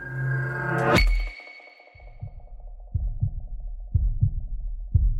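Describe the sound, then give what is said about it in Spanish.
A sharp click of an old key opening a padlock on a box rings out through an auditorium, then after a short pause a pounding heartbeat starts: deep, thudding double beats repeating about once a second, growing louder over a faint steady tone. “Mi corazón comenzó a latir con fuerza.”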